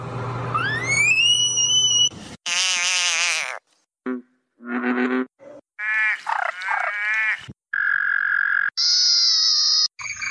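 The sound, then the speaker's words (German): A string of loud, separate calls from a palm-sized, greenish-grey speckled African clawed frog (Xenopus laevis), with shifting tones: rising whistles, buzzy croaks and bright trilling bursts, broken by brief silences, with no talking. “Xenopus laevis, auch glatter Krallenfrosch, glatter Spornfrosch oder Apothekerfrosch genannt.”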